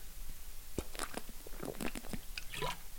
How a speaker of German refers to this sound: Ich muss noch kurz einen Schluck Wasser trinken.